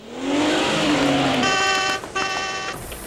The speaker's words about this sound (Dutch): helemaal niet naar de tandarts was geweest geworden gegaan, maar naar garagebedrijf de zwiepende ruitenwisser te Rosmalen, alwaar hij een proefrit aan het maken was in de allernieuwste Skada 38 met trekhaakverwarming.